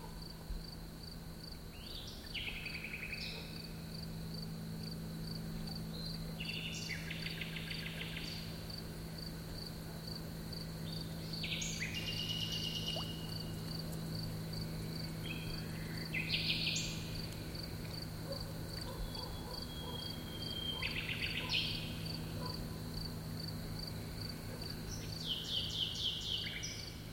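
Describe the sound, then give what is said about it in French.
A nightingale sings at midnight near a river between Saint-Georges-de-Rex and Coulon, in varied, bursting phrases over a steady, continuous insect trill, with a low background hum. The song comes in separated outbursts, and no one speaks. “À minuit, près de la rivière, entre Saint-Georges-de-Rex et Coulon, le rossignol.”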